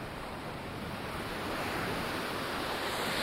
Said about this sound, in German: Ich gehe am offenen Meer entlang. I'm walking on the beach.